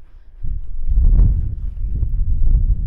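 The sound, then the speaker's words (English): Wind buffets the microphone in loud, low rumbling gusts that surge in after a quiet start and keep pummeling steadily, a muffled roar with no voices. “Whoa, windy.”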